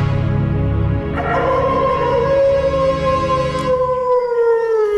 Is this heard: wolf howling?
yes